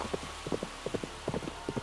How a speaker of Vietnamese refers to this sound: Em có nghe thấy tiếng vó ngựa ở ngoài hành lang không?